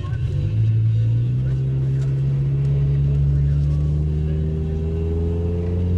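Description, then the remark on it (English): A small car's engine hums steadily as it drives down Massachusetts Avenue in Washington, D.C., its low drone rising gradually in pitch as the car picks up speed, with a continuous road rumble underneath. “All right, so now we're driving down Massachusetts Avenue here in Washington, D.C. A nifty little car, actually not bad.”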